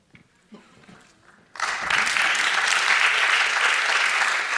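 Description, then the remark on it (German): An audience breaks into clapping after a brief moment of faint murmur, the applause swelling quickly into a loud, steady, dense patter that continues to the end. “Sie dürfen allerdings jetzt nicht jedes Mal klatschen, ne?”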